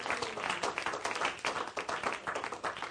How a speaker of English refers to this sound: Give yourselves, amen, a round of applause. Amen.